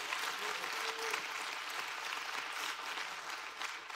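A large audience claps steadily and loudly, a dense, sustained wash of hand claps for several seconds without letting up.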